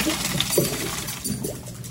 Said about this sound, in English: Next, we're going to strain the macaroni, then put it back into the pot.